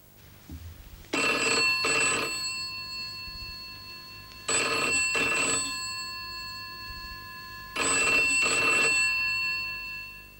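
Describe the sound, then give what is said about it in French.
A telephone rings three times in a steady pattern, each ring a double burst of bright electronic trilling with sustained harmonic tones, loud, with short pauses between rings and no one speaking. “Je te téléphone parce que j'ai un petit problème.”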